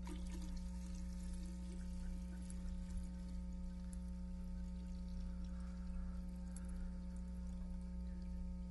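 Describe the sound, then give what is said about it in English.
Liquid pours steadily into a container for several seconds, a continuous soft splashing over a constant low electrical hum, with no one speaking. “I've said, in your life, if you'll pour in the Old Testament, and then, if you'll turn around, and now we're going to start pouring in the New Testament, the most amazing thing is going to happen.”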